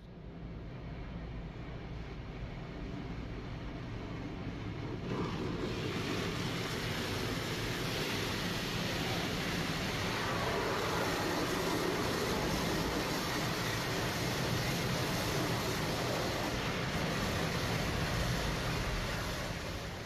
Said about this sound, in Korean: 개띠랑의 세차하는 기계 소리 들으면서 마무리하겠습니다.